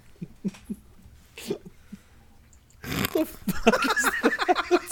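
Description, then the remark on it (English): Someone imitates a dog, starting with soft, scattered whimpers and grunts, then breaking into a loud run of rapid yelping barks for the last couple of seconds. “I think it's a dog”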